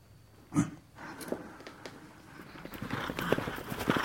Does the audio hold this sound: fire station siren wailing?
no